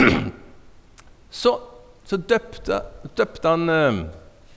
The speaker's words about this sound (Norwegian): Du hørte jeg kremte? Ja, jeg hørte det.